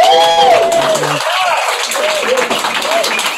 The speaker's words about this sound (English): Before I start, can we have just another wee round of applause for all the Slammers, please?